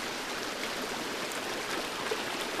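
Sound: rushing water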